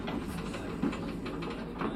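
A steady low rumble of a train rolling along the rails in cold weather in Russia, heard from inside the train, with faint rhythmic clatter running through the two seconds and no voices.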